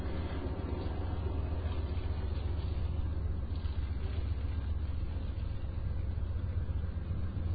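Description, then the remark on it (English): Steady, droning rumble inside a moving passenger train's dining car, a constant low roar with a faint rattling hiss on top, even in loudness throughout, with no voices. “this is the dining car. Okay, so it's only one coach car, and then the dining car.”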